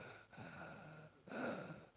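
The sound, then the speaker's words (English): A voice imitates the labored, gasping breathing of a woman sick with COVID: two strained, raspy inhalations about a second apart, the second louder and harsher, with no talking. “If your wife starts breathing like that”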